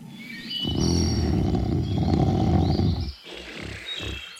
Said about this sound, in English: They also sadly woke up poor Rufus the Sleeping Bear and made him sleep somewhere else. Although you can hear tribute to the old guy in Splash Mountain, as you pass Brer Bear's cave, you hear this familiar snoring sound.